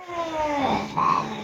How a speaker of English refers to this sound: You hear those cats? I had to close the door, but I think we're coming to a close anyway, so we'll deal with it.